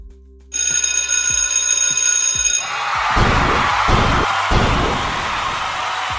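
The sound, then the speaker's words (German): A loud alarm bell jingle rings continuously for about two seconds, then gives way to a noisy, rumbling stretch with several heavy booming thumps. “donnerstags ist... Kebab-Alarm!”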